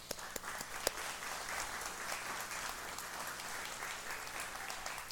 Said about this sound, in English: Those who are mothers, please join them as well. If you're a mother, can you stand? Yeah, we're going to clap for you. Thank you.